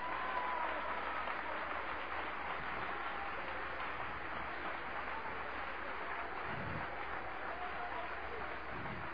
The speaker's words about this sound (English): Oh, applause, applause, applause.